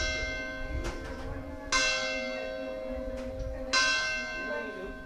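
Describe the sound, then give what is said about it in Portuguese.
The church clock of Rosário, in São Vicente, chimes at 13:44, ringing out two loud strikes about two seconds apart, each with a rich, sustained metallic hum that lingers between blows over fainter earlier tones. “O relógio do Rosário marca agora 13 horas e 44 minutos.”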